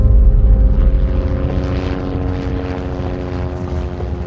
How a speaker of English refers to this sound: The first helicopter is landing in Fürstenfeldbruck, the one with the crisis staff, with police Vice President Georg Wolf, Minister Genscher, Bavarian Prime Minister Franz Josef Strauß, and again Chief Detective Schmidt.